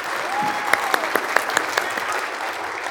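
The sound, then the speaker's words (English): A steady wash of clapping from many hands, a dense crackling patter with a few sharper individual claps standing out, holding at an even, moderately loud level throughout. “of applause. They've done such a good job.”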